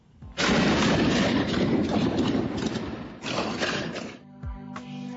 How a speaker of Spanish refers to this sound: No son balas contra piedras. Estos disparos dan idea del estado de las cosas.